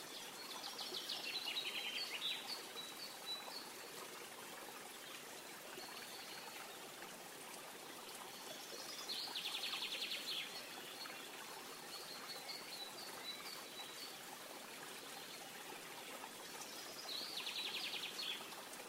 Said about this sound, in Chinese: 现在将注意力温柔地带到小溪旁。小溪蜿蜒着，一路穿过森林。这条小溪有多宽呢？